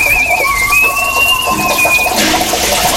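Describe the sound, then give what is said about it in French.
An elderly woman who whistles everywhere, all the time, whistles a tune in long, high, gently wavering notes over a steady hiss like running water. The whistling stops near the end as the rushing noise grows louder. “Dans les prochaines minutes, Karina nous fera découvrir une mamie siffleuse. Elle siffle partout, tout le temps.”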